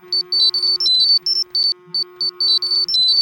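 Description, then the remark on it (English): Several phones ring and vibrate with the same shared, self-designed ringtone: loud bursts of shrill electronic beeps that warble and repeat in a quick, uneven pattern over a steady low hum and a faint rattling buzz. “The group wakes in a varied order and in varied states of grogginess as their phones ring and vibrate with the ringtone they had all designed and shared.”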